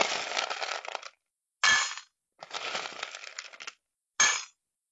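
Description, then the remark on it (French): Dry cat kibble rattles into a bowl in two longer pours of clattering pellets, each followed by a short, sharp extra shake, fairly loud with no voices. “Tiens, voilà des croquettes.”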